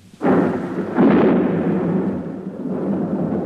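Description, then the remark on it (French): A loud thunderclap from a storm cracks in suddenly, hits again a moment later, then rolls on as a long, heavy rumble with no voices present. “Dans son hôtel particulier, madame de bonne famille, réveillée par le fracas de l'orage, s'est levée en hâte pour voir si tous ces gentils minets ne sont pas trop effrayés.”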